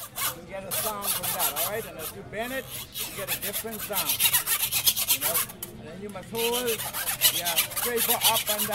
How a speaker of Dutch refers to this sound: Dat is dus de muziek die je maakt met een zaag en een schroevendraaier.